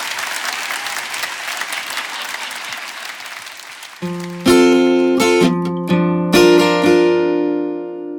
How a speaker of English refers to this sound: Can we have a big round of applause for Fern Brady, people?